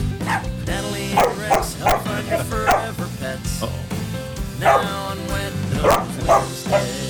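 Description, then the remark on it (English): A dog barks repeatedly and loudly indoors in a studio, in irregular bursts of sharp yips and woofs, with a steady low hum and some voices underneath. The dogs Dixie and Gumby are in the studio for Wet Nose Wednesday, and Dixie barks at a man. “We finally got a barker.”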